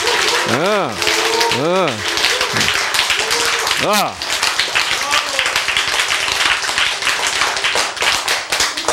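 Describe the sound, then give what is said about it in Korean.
A crowd claps loudly and continuously throughout, a dense wash of hands, while a few voices rise and fall in short shouts over the applause. “그래서, 그래서 여러분, 이 스파크가 잘 생기는 사람은, 여러분이 박수 칠 때 스파크가 쓱쓱쓱 생기는 거야.”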